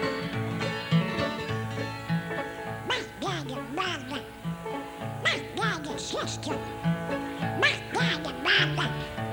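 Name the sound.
duck quacking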